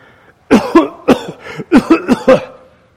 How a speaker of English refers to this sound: Everyone is coughing, unable to see because the smoke stings their eyes. And they are all sputtering away.